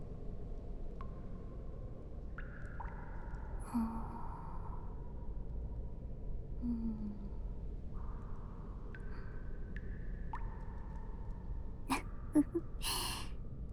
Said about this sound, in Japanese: またあくびが出たな。目もうるうるして溶けそうだ。